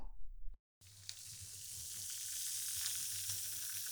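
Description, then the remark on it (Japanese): After a brief low rumble and a short moment of silence, a dense, steady fizzing of carbonated foam applied to the ears crackles and hisses, bright and continuous with tiny popping bubbles throughout. “隅々まで炭酸を行き渡らせます。”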